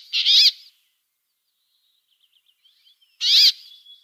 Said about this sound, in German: Das war das Quäken. Des Bergfinken. Ja, so ist es.